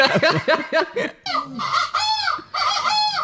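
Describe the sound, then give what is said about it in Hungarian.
A person imitates seagull calls: a quick run of choppy squawks, then two longer wavering cries, loud, with no other sound. “Sirályokat imitálok.”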